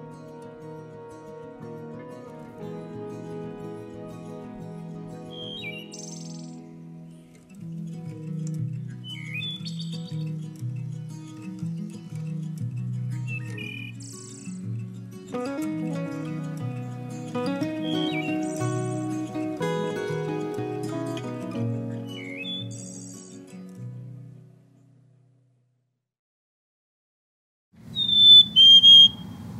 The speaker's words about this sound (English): That is a black-capped chickadee, courtesy of the Cornell Lab of Ornithology.